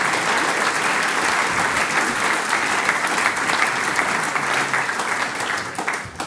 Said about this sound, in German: Vielen Dank, Applaus für Bürgermeister Gregor Löffler.